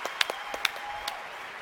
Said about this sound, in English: A big round of applause Mandel. For Howie Mandel.